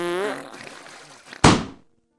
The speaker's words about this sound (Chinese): 一个小小的屁成了压垮骆驼的最后一根稻草，气球一下子就炸开了